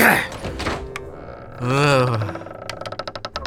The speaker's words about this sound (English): Why is this door always jammed up?